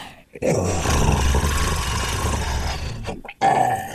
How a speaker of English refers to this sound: The rest of you, you hear a low, guttural hiss behind you.